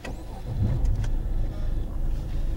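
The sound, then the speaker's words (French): A car with about 310,000 km on it hums steadily from inside the vehicle as it drives, with a low rumble throughout and a couple of brief faint clicks near the middle; no one speaks. “Cette voiture, je l'ai eue à 250 000 km.”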